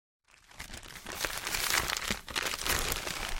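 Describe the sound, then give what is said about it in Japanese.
Newspaper crumples and crinkles steadily as a shoemaker's wife wraps goods from a display stand in it, a dense rustling that starts after a brief silence and continues without pause, with no voices. “血をつぐんで新聞紙で骨身を包んでいた靴職人の妻は、目に涙をためて”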